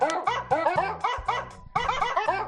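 Dogs barking and yipping in rapid, overlapping bursts, loud, with barely a pause between the high-pitched barks over a couple of seconds.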